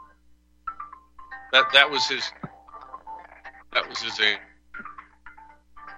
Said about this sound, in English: And luckily, somebody's got a phone ringing or something.